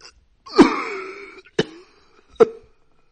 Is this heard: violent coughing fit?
yes